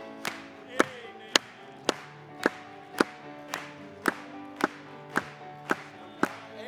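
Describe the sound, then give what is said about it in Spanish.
An audience at a Spanish-language worship service claps together in a steady beat, about a dozen sharp, evenly spaced claps over sustained instrumental music, fairly loud. “Vamos a aplaudirle.”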